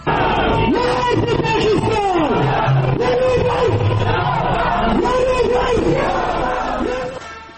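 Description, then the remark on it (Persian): A loud anti-Pakistan protest crowd in Kabul chants and shouts in unison, many voices rising and falling in repeated rhythmic calls over a constant roar of babble, fading slightly at the end. “همزمان با سفر این هیئت به پاکستان، کابل دیروز شاهد تظاهرات ضد پاکستان بود.”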